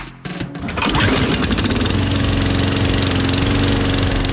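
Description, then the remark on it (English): A lawn mower engine starts with a brief sputter, then quickly revs up to a steady, loud, buzzing drone that holds constant with no voices. “The sound that echoes every suburban neighbourhood on a Sunday afternoon. We love a lawn, don't we?”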